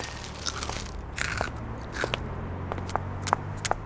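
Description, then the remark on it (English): Crisp crunching of crunchy broccoli clumps from a king-size tub being bitten and chewed, with irregular sharp cracks over a low steady background hum, no talking. “Here's your change, and here's your king-size tub of crunchy broccoli clumps.”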